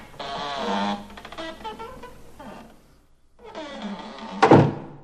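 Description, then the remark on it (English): A door in a mountain wall creaks and groans open in two drawn-out stretches with a short pause between, then lands with a solid thunk near the end. “Wow, here's a door in the mountain wall. Well, I can at least try.”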